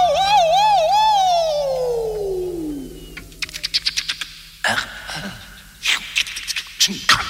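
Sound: ambulance siren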